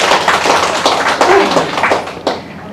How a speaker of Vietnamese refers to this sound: Xin dâng cao một tràng vỗ tay thật lớn để tán dương tập thể các bác sĩ.